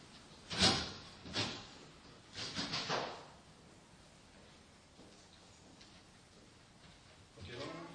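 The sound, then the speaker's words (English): A door is pushed shut with a solid thud, followed by a quick series of metallic clicks and rattles as the lock is worked, then another soft bump near the end. “This one needs to be locked, I assume, right? Yeah. Excellent. Do that right now.”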